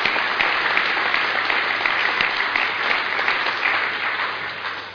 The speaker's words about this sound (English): Let's give them a fantastic round of applause. Thank you so much. Thank you.